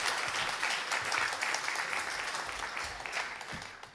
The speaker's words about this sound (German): Genau, euer Applaus.